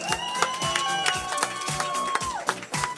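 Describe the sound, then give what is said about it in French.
A crowd applauding loudly and steadily for about three seconds for three artists performing live, dense clapping with some cheering mixed in, over a sustained musical tone in the background. “On les applaudit très très très fort.”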